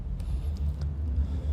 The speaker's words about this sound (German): Ihr seht das Auto da kommen.